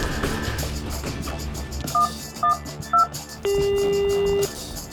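Three short, evenly spaced dialing beeps followed by a longer steady tone, heard over a dense background of music and ambient noise.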